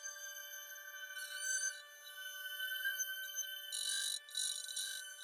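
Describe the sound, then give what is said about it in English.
Ice crystals bowed with other ice crystals at about -20 degrees, recorded with a very sensitive microphone, give a sustained, very high, glassy tone made of steady shimmering overtones, with bursts of bright hissing noise flaring up twice. Nobody speaks. “It's just like this very high kind of hissing frozen sound.”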